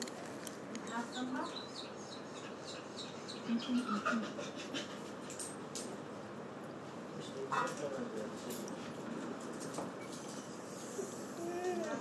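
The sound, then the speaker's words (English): A dog on a lead pants steadily, its quick breaths running through the whole stretch, while birds chirp faintly in the background of an outdoor setting. “I'll shorten the lead, so see, I don't want him going up to any other dogs.”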